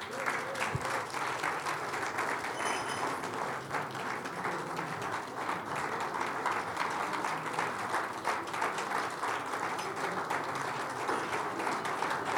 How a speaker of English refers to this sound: Yeah, keep clapping for them. They are leaders by example. Leaders by example.